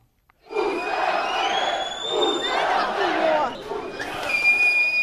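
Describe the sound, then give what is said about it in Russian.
A large crowd marching toward a local Roma district shouts and chants together ("We'll show them") in a dense, continuous roar, with shrill whistles cutting through, especially near the end. Loud, with no single voice standing out. “В определенный момент толпа с криком «Мы им покажем, мы им устроим» двинулась в сторону местного цыганского района.”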